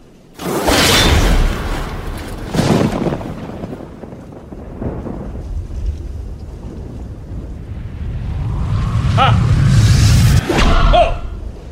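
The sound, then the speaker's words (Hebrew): Loud whooshing bursts of an arrow being shot from a bow by a king toward Rome, several sweeping swishes with a deep rumbling undertone, no voices, building again near the end. “אני אירה חץ לכיוון רומי. חץ תשועה ברומי.”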